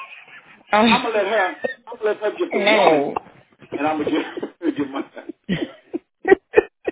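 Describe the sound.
A woman clears her throat in a run of loud, guttural, voiced rasps and hums, tapering into a few short, clipped coughs or ahems at the end.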